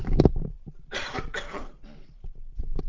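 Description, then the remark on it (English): A person with a scratchy throat takes off their headset and coughs several times in quick succession, harsh, raspy bursts that sound a little muffled and away from the microphone, with no talking. “I'm going to take the headset off again, just have a little cough, scratchy throat.”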